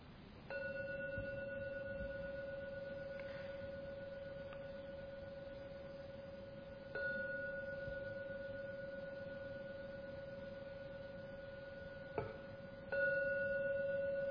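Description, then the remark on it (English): A gong is struck three times to signal the end of a meditation session, roughly six seconds apart, each strike blooming into a steady, sustained ringing tone that hums on without fading much. No one speaks. “Now ring the gong 3 times to signal the end of this meditation session.”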